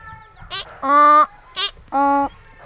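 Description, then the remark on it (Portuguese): A donkey brays twice in a stable in a loud hee-haw, each cycle a short squeaky high note followed by a longer, deep honking note, with no other voices. “A formiga, o rato, o pato, o gato e o porco foron buscar o burro, que horneaba na corte.”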